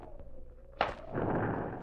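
A sharp, sudden whoosh as oil set alight by a couple of dropped matches ignites, followed by a steady rushing roar of flames that keeps burning to the end, with no talking.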